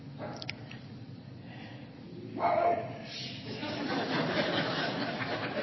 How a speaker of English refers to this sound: You know, when the dogs start barking, it's like, ooh, okay.